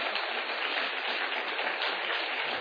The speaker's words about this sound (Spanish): Y quiero que le dé un aplauso de honra al Señor por la vida del pastor.